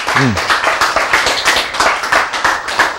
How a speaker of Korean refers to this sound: 박수!